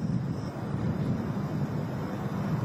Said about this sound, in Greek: Έχει και πολύ αέρα, η αλήθεια είναι. Οπότε, ακόμη και για τα ελικόπτερα να κάνουν στοχευμένες ρήψεις, είναι πολύ απαιτητικό.